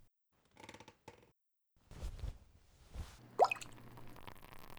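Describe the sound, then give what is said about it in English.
A handful of partridge berries from a satchel is tossed into a liquid brew: a few soft rattling clicks, then wet sloshing and a plopping splash with a quick rising bubbly note, fairly quiet, with no voices. “Grab a handful of partridge berries from my satchel and toss them in.”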